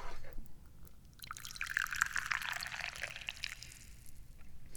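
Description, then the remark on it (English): Tea is poured into a cup in a steady stream lasting a few seconds, a bright liquid splashing and gurgling that rises and then tapers off, with no talking. “And, I'm not doing much, really, other than pouring some tea.”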